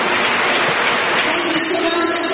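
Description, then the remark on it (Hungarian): A crowd claps steadily to welcome a speaker being introduced, a dense wash of many hands applauding at once, sustained and fairly loud throughout without pause. “Tapsoljuk meg őt.”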